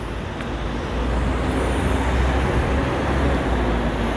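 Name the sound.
street traffic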